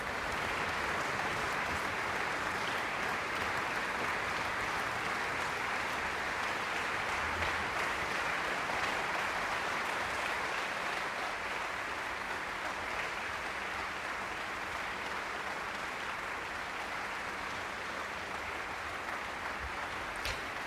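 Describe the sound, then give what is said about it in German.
Sustained applause from a large concert audience at the Stadtpark Schützenhof for the Serbian pianist, the conductor and the standing orchestra after a Romantic piano concerto, a steady dense wash of clapping that holds at an even level throughout with no voices over it. “Applaus weiterhin für den serbischen Pianisten”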